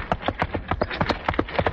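A rapid, steady clip-clop of horse hooves trotting, a dozen or so hollow knocks in an even rhythm, with a faint low rumble of wagon wheels underneath and no talking; a radio sound effect, the hooves made by hitting two rubber plungers on a chest and the wagon by a box on casters wiggled with a foot.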